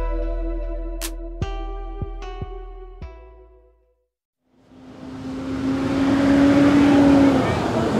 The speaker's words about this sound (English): Before long, the bus pulls up.